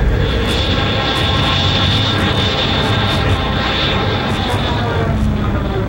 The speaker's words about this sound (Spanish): ¡Dale máxima potencia a los motores de Nipa!